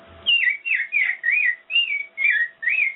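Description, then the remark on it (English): A girl whistles an imitation of an American robin's song, a string of about seven short, warbling, rising-and-falling phrases in a steady rhythm, clear with no talking. “American robin.”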